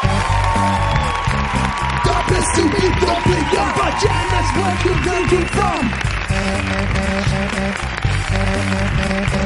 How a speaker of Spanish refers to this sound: Pido un aplauso